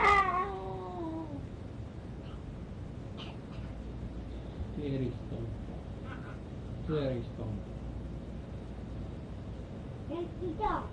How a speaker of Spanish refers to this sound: Gatito.